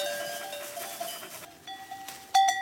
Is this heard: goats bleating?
yes